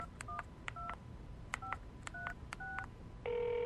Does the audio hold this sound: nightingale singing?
no